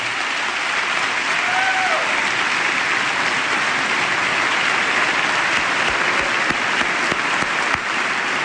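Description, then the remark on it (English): Sustained applause from a large crowd in the US Congress chamber for a standing eighth grader from South Carolina seated beside First Lady Michelle Obama, a dense, steady wash of clapping that holds at an even loudness throughout, with no speech over it. “She's standing to receive the applause of the chamber.”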